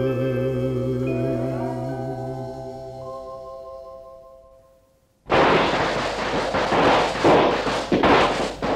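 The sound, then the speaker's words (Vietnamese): Sustained tonal music fades out, then a loud, dense barrage of firecrackers bursts in, popping and crackling rapidly and continuously until the end. “Kìa anh, anh có nghe không, tiếng pháo nổ vang, xác pháo hồng tan”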